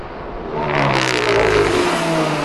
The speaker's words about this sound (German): Ach, da kommt ein Auto, Leute, das dürft ihr nicht finden, ja?